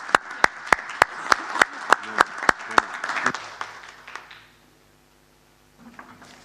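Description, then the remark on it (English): An audience breaks into applause for the panelists at the end of a panel session: a dense wash of clapping led by a few sharp, evenly spaced claps, which thins out and fades after about four seconds, leaving near silence. “All right, well, let's give a round of applause for our panelists and thank everybody for this.”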